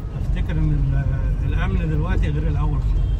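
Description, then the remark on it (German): A car drives through city traffic in Cairo, heading away from Tahrir Square, its engine rumble low and steady throughout, with a voice talking over it. “Er lenkt sein Auto weg vom Tahrirplatz, weg von der Politik, die seinem Land kein Glück gebracht hat.”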